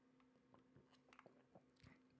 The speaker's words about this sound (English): Anyway, let me take a sip of podcast juice.